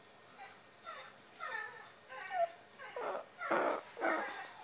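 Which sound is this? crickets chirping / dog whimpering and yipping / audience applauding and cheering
dog whimpering and yipping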